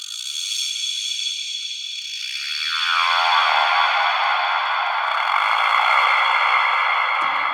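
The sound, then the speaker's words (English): A synthesizer's creaking preset with added reverb, starting as a thin, high, gritty hiss that sweeps downward into a dense, grinding wash and holds steady and fairly loud for several seconds, with no voices. “But there's one called the Creaker. It's just a simple... You add a little bit of reverb onto that, and all of a sudden you've got this...”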